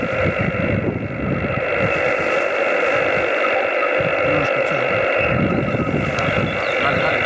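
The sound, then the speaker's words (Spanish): A noisy amateur radio transmission drifts in and out through steady static and hiss, with a muffled voice breaking through in choppy fragments before fading under the noise again. “Ahora sí, ahora te rescate, es que te vas y te vienes con la facilidad.”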